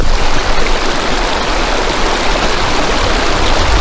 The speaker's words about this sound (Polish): W pobliżu nas strumień.